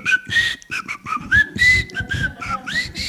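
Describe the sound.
A whistled song motif of about a dozen short, clear notes, whistled to be sent over the phone for a new song, some sliding up in pitch, rising and falling in a lilting tune with brief breaths between phrases and no talking.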